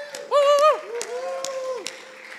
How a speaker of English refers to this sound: Let's give Jesus a little shout, clap, whistle.